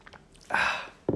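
A short, breathy slurp as someone sips from a glass of water, followed a moment later by a brief swallowing gulp; quiet overall, with no talking.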